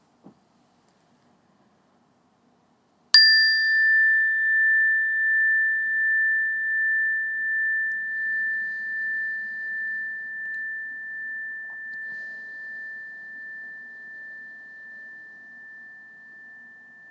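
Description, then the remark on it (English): After a few seconds of silence, a meditation bell is struck once, clear, to begin a breathing meditation, and its pure tone rings on with a gentle wavering shimmer, slowly fading over many seconds. “And when you hear the sound of the bell, just start off by taking a few breaths in and a few breaths out like we normally do, and wait for further meditation instructions.”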